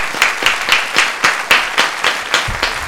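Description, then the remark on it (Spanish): A TV program's audience applauds a guest in a steady, rhythmic clap, sharp hand claps landing about four times a second over a dense wash of clapping, fairly loud, with no one speaking. “Un aplauso para ella, por favor.”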